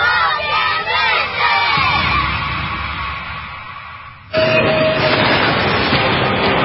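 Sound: train rolling on tracks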